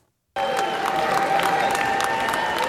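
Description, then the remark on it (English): After a moment of silence, Democratic lawmakers in the House chamber abruptly break into loud, steady applause and cheering as a measure passes, dense clapping with scattered voices calling out, sustained at a constant level to the end. “And the Democrats were the ones cheering for this particular passage as this went down.”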